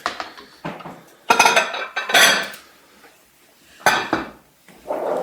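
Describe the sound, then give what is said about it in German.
Large plates clatter and scrape as they are pulled out and handled, with several bright ceramic clinks and knocks in bursts, loudest around the middle, separated by short quiet gaps. “Wir nehmen am besten auch wieder so große Teller, oder?”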